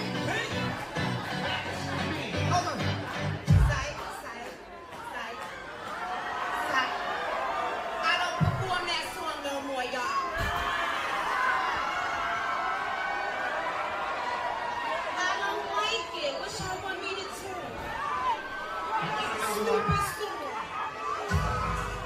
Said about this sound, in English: So she was performing in Miami for a New Year's-esque concert. And let's just say the crowd were pretty unhappy when this happened.